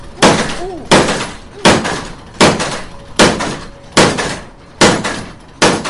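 The water-powered trip hammer, called 'norc', of the Vrderber forge in Belpa, the last working water-powered forge, pounds steadily, about nine heavy metallic blows landing at an even, mechanical rhythm, each strike ringing briefly before the next.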